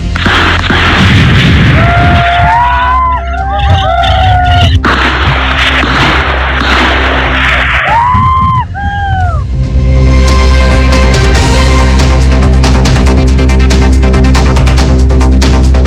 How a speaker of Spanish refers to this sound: No hubo heridos, pero sí hubo incidentes respecto de enfrentamiento con disparos. Escuchemos precisamente lo que ocurrió cuando carabineros principalmente ingresaba y luego se retiraba de la zona rural.